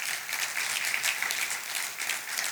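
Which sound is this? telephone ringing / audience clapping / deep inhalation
audience clapping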